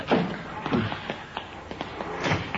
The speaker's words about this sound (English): Yeah, I see him. Over there going for that Cadillac. Yeah. You got a good look at him? No, it's too dark. He's forcing the door.